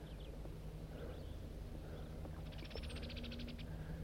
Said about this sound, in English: I'm a little higher on the hill and there's some wild birds around.